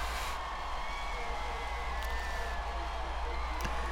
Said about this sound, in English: And the flag is coming down. Again, amid huge uproar from the attending crowd.